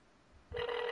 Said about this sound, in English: So I'm dialing the number now, and hopefully you can hear through the speakerphone thing. It's a very tense moment right now as the phone rings.